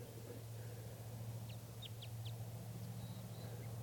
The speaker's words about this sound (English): one of the crossbills remained behind. It's a male. It gave a few song phrases. I think it's a type 5 bird.